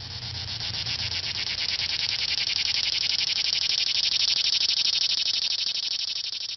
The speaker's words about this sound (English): Those are cicadas, of course, and they can actually generate as much noise as something else we often hear in the summer, a lawnmower. And this year, cicadas have emerged early.